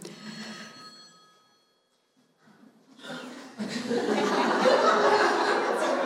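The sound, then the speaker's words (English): A bright electronic ring, like a phone or doorbell, sounds once and fades into a brief pause before a room full of people breaks into loud, sustained laughter. “Is that the doorbell? Is he coming? If you don't have your phones turned off, you might want to, okay?”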